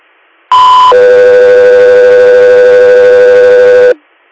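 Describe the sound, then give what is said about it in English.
Radio dispatch alert tones for the unit Echo 3 Air sound loud and alone: a brief higher steady tone, then a longer, lower sustained tone lasting about three seconds before cutting off. “Echo 3 Air, stand by for tones.”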